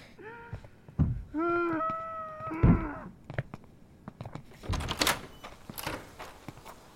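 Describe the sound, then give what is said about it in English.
Muffled whimpering cries of a man come through the door of his room, three short wavering wails in a row, followed by scattered knocks and rustling noises, with no one talking. “It sounded like he was crying.”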